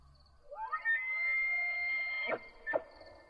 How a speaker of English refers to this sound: It came from behind me and sounded like some strange scream, or maybe animal call, kind of like an elk bellowing, but something about it felt unnatural.